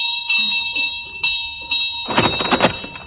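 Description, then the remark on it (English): An electric doorbell at the front door of Battersby Grange, a house, rings loud in a few short bursts, its steady metallic tone followed by a heavy clattering thump near the end. “I'll ring the bell.”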